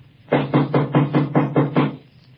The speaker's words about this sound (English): Did you hear anything? Jeez. Sounded like somebody knocking, didn't it?